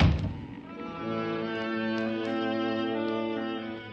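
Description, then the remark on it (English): A chart room door on a ship thuds shut with a single dull knock at the start, then a steady, sustained tonal drone carries on, fairly loud, with no voices. “If you're going into the chart room, please close that blinking door. I can't stand to hear a door banging.”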